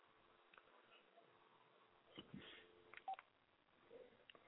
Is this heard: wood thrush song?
no